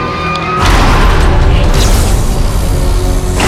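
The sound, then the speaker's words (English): A heavy steel door swings shut behind Agent Strahm, slamming with a deep, booming impact at about half a second in, leaving a loud rumbling resonance that lingers for several seconds before fading. “The door swings shut behind Strahm.”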